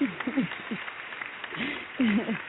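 A short burst of audience applause, a steady hiss of clapping with voices whooping and cheering over it, swelling again near the end.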